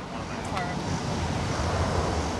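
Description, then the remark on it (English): A torrent of chocolate milk-colored river floodwater, coming from a dam and 9 feet above flood stage, rushes under a bridge near downtown in Guadalupe County in a steady, dense roar that never lets up, with a brief sharp tick early on cutting through the constant wash. “stand on a bridge to watch the torrent of chocolate milk-colored water rush under them.”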